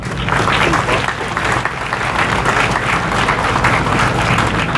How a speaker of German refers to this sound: Ein besonderer Dank geht an alle Mitglieder des Organisationsteams des Verbandes, die großartige Arbeit geleistet haben. Ich bitte um einen Applaus.